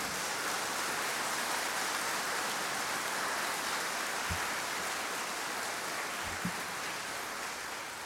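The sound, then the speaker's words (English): A crowd applauds in a dense, steady wash of clapping that holds for about eight seconds, with a couple of brief low thumps, before easing off slightly at the end. No one speaks. “That may be the last time they clap,”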